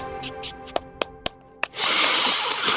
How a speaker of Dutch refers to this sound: Ja, klein snuifje, als je zo vroeg moet opstaan als ik.